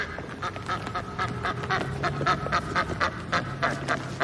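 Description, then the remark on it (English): A duck on a street quacks rapidly and repeatedly, its harsh calls tumbling over one another amid bursts of wing flapping as it darts about and is grabbed, with no one speaking. “The duck flaps its wings and darts about, but Lucas grabs the bird.”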